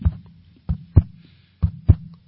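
A heartbeat sound effect thumps in a steady lub-dub rhythm, deep low thuds arriving in pairs, moderately loud with no talking over it.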